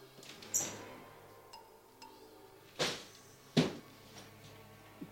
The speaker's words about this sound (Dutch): Wil u de tweede la van uw dressoir even opentrekken? Ja, dat zal ik ook even doen. Deze?